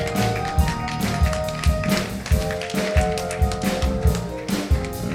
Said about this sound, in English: Give God a hand clap of praise for our babies. Amen.